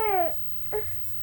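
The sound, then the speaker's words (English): A screech owl gives a high, wavering call that slides slightly downward, then a brief second note follows after a short pause, over a low steady background hum. “A screech owl.”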